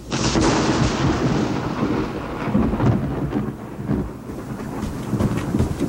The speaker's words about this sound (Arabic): نعم يا أحبتنا، فقد بدأت قطرات المطر تزداد شيئا فشيئا